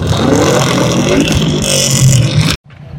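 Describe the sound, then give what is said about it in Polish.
A Subaru car engine revs loudly with a rough, throbbing rumble and rising whine for about two and a half seconds, then cuts off abruptly, leaving a quieter background hum. “Jak Państwo słyszycie ten dźwięk, to jest właśnie Subaru”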